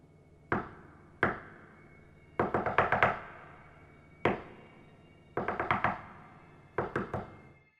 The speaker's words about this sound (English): Not tiny little taps, but loud taps, like almost banging. It was coming from the direction of the window.